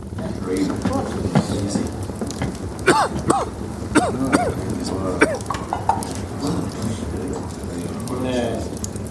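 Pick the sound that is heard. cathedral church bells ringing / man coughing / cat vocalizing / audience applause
man coughing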